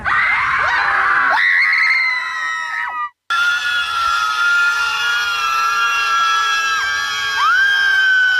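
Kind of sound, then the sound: crowd, protest crowd screaming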